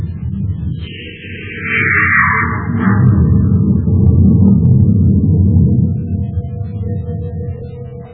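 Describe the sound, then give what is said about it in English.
The commander's spaceship blasting off from Terra and easing into its flight orbit: a loud, steady low roar swells and holds, while a high whine slides downward early on and a faint steady tone hums beneath. No one speaks. “The commander's ship blasts off from Terra and eases into its flight orbit”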